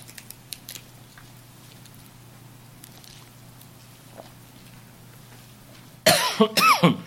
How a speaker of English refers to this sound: I'm starting to get that tickle that says a cough is coming.